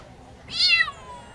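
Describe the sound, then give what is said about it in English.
A single high, thin meow from a Bengal kitten at a weekend cat show at the fairgrounds rises and then falls away over about half a second. It sounds clear against a faint, steady background hush, with no talking. “These Bengal kittens had a lot to say at a recent weekend cat show at the fairgrounds.”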